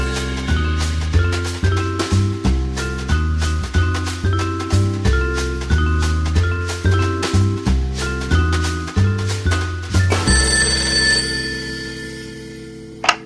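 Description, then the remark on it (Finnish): A telephone bell at the Kielitoimisto language office rings in rapid, rhythmic bursts over a steady pulsing backdrop, then gives way to a longer, bright sustained ring that slowly fades. No one speaks. “Kielitoimistossa, maisteri … puhelimessa.”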